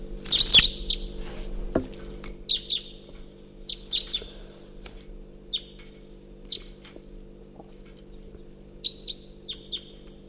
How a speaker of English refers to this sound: Song phrased by that second wild bird far in the distance.